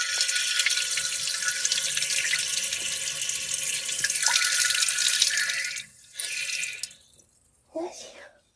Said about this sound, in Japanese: あ、恥ずかしいな、おしっこの音聞かれるの。